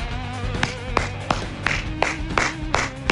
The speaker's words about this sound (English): Pardon me while I stand and applaud.